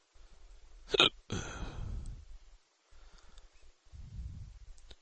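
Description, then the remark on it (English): A deep, abrupt hiccup jolts out, trailing into a low throaty rumble, followed by a softer, lower hiccup a few seconds later, with no talking; the hiccups come after three beers and a full meal at a taco place. “These are some deep-ass hiccups, man.”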